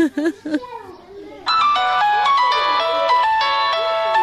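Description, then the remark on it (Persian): A child's voice speaks briefly, then a mobile phone starts ringing with an incoming call from an unknown number, a loud, steady electronic melody of repeating tonal beeps that continues to the end. “تو بتی موبایلم؟ اینه بگی مادر. این خوش شماره ناشناس است، خدا میدانه که کی باشه.”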